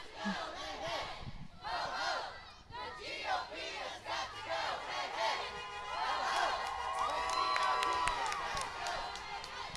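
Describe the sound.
A large rally crowd, led by a speaker, chants in loud, rhythmic bursts of shouting, then swells into sustained cheering and whooping, with a few higher voices and whistles cutting through the noise.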